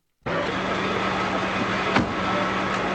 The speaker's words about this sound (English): Just slams the cop door closed.